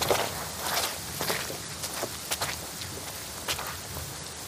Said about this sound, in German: So schnell wie möglich stapfen sie über Grasbüschel im Zickzack an den tropfenden Kiefern vorbei.